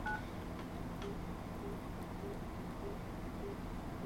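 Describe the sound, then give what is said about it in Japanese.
A landline phone is being dialed to call a mobile phone with airplane mode off: a crisp dual-tone keypress at the start, followed by a few faint, spaced short beeps over a steady background hiss, with no one speaking. “でこれでまた固定電話から電話をかけます。”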